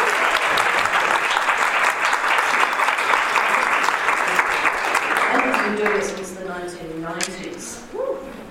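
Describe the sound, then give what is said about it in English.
An audience at a conference claps steadily in a dense, loud burst of applause for about six seconds, then the clapping fades as someone begins speaking. “And can I have a special round of applause”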